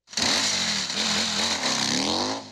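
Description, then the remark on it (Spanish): A motorcycle engine revs loudly, its pitch rising and falling in a few throttle swells over a steady rumbling drone, with no voices. “Sí, eso es una motocicleta.”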